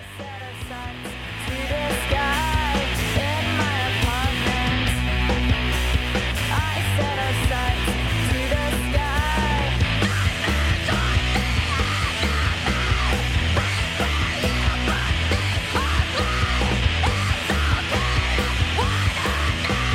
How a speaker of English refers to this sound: And of course, blood-curdling screams.